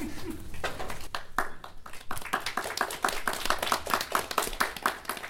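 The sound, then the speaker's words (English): An audience claps after a song in a quick, steady rhythm, sharp hand claps building from a few scattered slaps into a dense, even beat at moderate volume, with no talking. “It's an awkward song, you don't have to clap for it, it's just like real life.”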